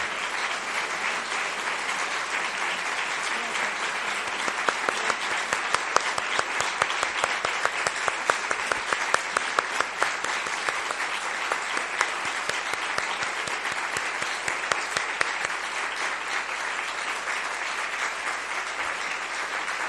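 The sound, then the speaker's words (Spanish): Warm, sustained applause from a large standing audience honoring the women commanders of the CRI-CG of the EZLN, a dense steady wash of clapping with sharper individual claps poking through, continuing at an even level for about twenty seconds with no voices. “columna vertebral en esta guerra contra el olvido, nuestras comandantas del CRI-CG del EZLN, para quienes pedimos ponernos de pie y brindarles un caluroso aplauso, símbolo de lucha, resistencia y rebeldía, porque sin ellas no estaríamos aquí.”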